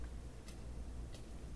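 Two crisp, evenly spaced clock ticks sound quietly over a steady low hum, with no voices present.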